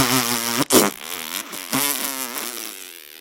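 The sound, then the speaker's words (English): Loud fart noises, buzzy and wavering in pitch, come in a few drawn-out bursts with a sharp sputtering blast early on and a trailing, flapping finish. “His brothers called him the Ash Fart, because of all the noise he made while blowing on the fire.”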